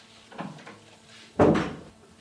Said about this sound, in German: Will ich die Tür wieder zumachen? Ach ja, machen Sie zu.